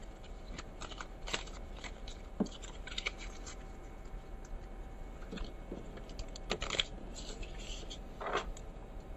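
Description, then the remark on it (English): A small deck of 16 playing cards, one suit plus three jokers, is shuffled, giving irregular papery riffles, slides and taps over several seconds, fairly quiet with no talking. “This auxiliary deck consists of all the cards from one suit plus 3 jokers. So it looks like that, and I shuffle it.”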